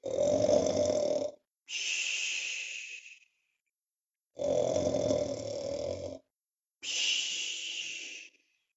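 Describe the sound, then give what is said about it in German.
Loud snoring of a father sleeping in bed, in two full cycles, each a rumbling inhale followed by a raspy, hissing exhale, steady, with short silent gaps between breaths. “Ui, ui, ui, oh Mann, was der laut schnarchen kann.”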